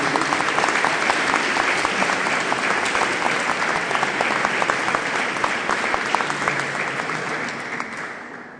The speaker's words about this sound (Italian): Quindi vorrei fare un applauso